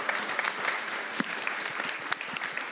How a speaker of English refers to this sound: Another big round of applause for our incredible panel of artists and curators today. Thank you, guys.